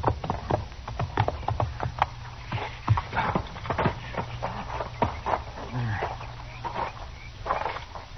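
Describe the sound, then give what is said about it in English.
The horses of Marshal Dillon and Chester clip-clop in an uneven, shuffling rhythm of sharp knocks, with a low steady hum underneath and faint murmuring voices mixed in. “Let's leave our horses here, huh, Chester?”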